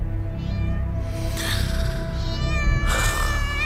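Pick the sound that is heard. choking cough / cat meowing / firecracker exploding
cat meowing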